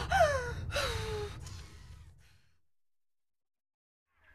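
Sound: heavy gasping breaths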